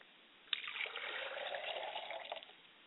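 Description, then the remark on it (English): Water is poured out as a libation in a steady, splashing stream onto the ground for about two seconds, fairly soft, then stops. No one speaks. “As I pour libations to the north, I say, Ashe.”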